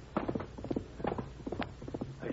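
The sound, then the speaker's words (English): The hooves of an approaching chestnut horse clip-clop in a steady, uneven rhythm, each hoofbeat a sharp hollow knock, fairly loud, with no voices over them. “That's that chestnut horse he rides.”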